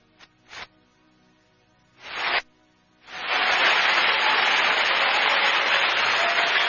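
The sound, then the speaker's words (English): An audience claps for Jesus: a few scattered claps and short bursts first, then from about three seconds a loud, dense wall of steady applause that carries on to the end. “But if you are clapping for Jesus, clap well.”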